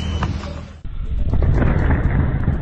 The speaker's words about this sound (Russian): Это ракеты полетели. Да закройте ебальники, это ракета, самолет пускает. Да, это в нашу. Это в нашу.